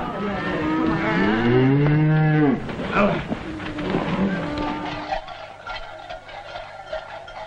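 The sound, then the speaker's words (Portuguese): A calf at a festival's ritual slaughter lets out one long, loud bawling moo that rises and falls, followed by a few seconds of quieter rustling and shuffling noises. “Durante esta festa assistimos ao ritual da matança do vitelo ou do bode para a ceia dos rapazes.”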